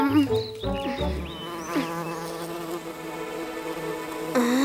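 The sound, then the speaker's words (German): A dense, steady drone of many bees buzzing around the honeycombs of a hive, layered wing hums rising and falling in pitch and swelling louder toward the end, with no voices. “Komm schon, noch sind die Bienen überrascht.”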